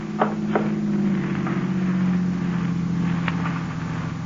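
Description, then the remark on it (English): A car engine hums steadily at moderate volume as the car drives past, its low drone holding for a few seconds, with a few faint clicks and knocks over it. No one speaks. “Uh-oh, car coming.”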